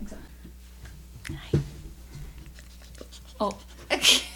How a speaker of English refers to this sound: Lots of dog tongues. They love to lick.